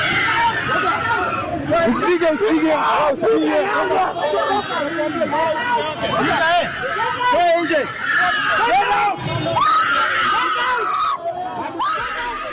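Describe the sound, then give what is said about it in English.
A dense crowd of Boda Boda motorbike taxi riders shouting and yelling over one another, loud, with sharp cries rising out of the continuous agitated clamor, as they follow a woman's car after an accident on Wangari Maathai Road in Nairobi, Kenya, shouting "Come out!" “Kenya was in shock after a viral video of a young woman allegedly involved in an accident with one of the Boda Boda riders on Wangari Maathai Road in Nairobi was violated by a crowd of the Boda Boda riders who followed her car, shouting, "Come out!"”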